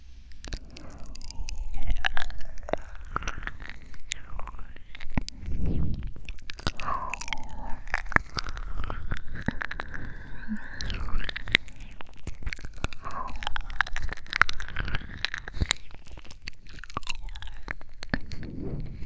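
Close, wet chewing and mouth sounds right at the ear, a steady run of soft smacks, clicks and crunchy bites with no talking throughout.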